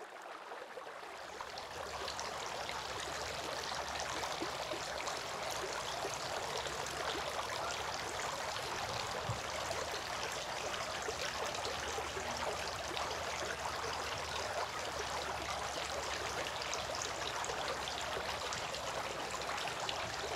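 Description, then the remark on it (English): Water runs and splashes steadily, a continuous pouring stream that starts after a brief moment and keeps flowing without pause, as a handful of water is used to wash the right forearm. No voices. “Then he took a handful of water and washed his right forearm, and again took another handful of water and washed his left forearm.”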